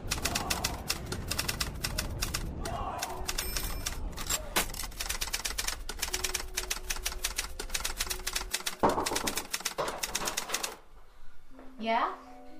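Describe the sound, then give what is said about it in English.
Several newsroom typewriters clack away at once in a dense, rapid, overlapping patter that runs steadily for about ten seconds, then stops abruptly as a single voice speaks briefly. “Will you nincompoops shut that window and get back to your typewriters?”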